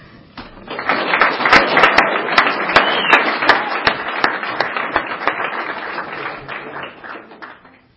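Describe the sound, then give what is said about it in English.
A crowd bursts into applause welcoming the evening's speaker, many hands clapping in a dense, steady patter for several seconds before gradually thinning out and fading at the end. “Please help me welcome our speaker tonight”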